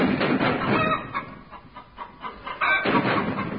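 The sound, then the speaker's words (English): A flock of chickens clucking and squawking in a loud, busy flurry that thins to scattered clucks midway before swelling again, noisy with no voices. “Hear that thrilling sound. British artillery shelling German chickens.”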